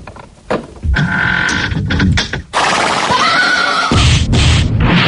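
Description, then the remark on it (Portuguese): A mule's loud, braying neigh rises and falls in harsh, wavering bursts, with a rough tonal whinny stretching across several seconds and no talking, played as a sound effect when door number 5 is opened in a Mega FM radio game. “Nós há pouco chamámos-lhe isto, digamos que a maldição do jogo da mula.”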